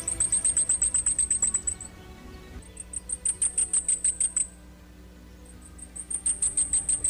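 A male blackpoll warbler's extremely high, thin song: rapid series of sharp, evenly spaced ticking notes, repeated three times with brief pauses, clear with no talking.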